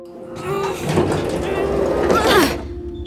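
Heavy elevator doors, whose button is not working, are pulled apart by hand, a loud grinding scrape lasting about two seconds that rises to a metallic squeal before stopping, leaving a low steady hum.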